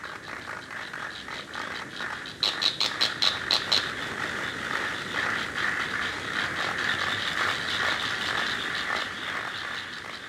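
A steady, buzzing insect chorus fills the air, with a burst of sharp rhythmic chirps near the start standing out against a continuous high-pitched trilling, like crickets rasping their wings.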